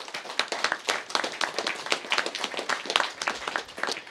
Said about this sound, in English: How about a round of applause for the Project Drew team?